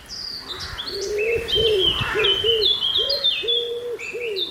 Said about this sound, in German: Haben Sie erkannt, wer es ist? Ja, also man hört ja mehrere Vögel, aber im Vordergrund hört man die, verrate es mal, ne? Die Ringeltaube. Die Ringeltaube,